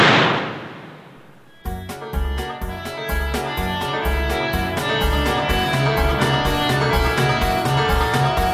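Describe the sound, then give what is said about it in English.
A single loud gunshot bursts out and fades through a hissing tail for over a second, then upbeat music with a steady, thumping rhythm starts and carries on. No one speaks. “Now shoot them, please.”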